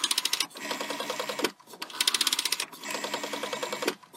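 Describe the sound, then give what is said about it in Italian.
A rotary telephone dial is turned and released twice to dial a phone number, each spin giving a fast ratcheting run of clicks followed by a pause; fairly loud, with no voices. “Mamma mia, questo telefono che fatica.”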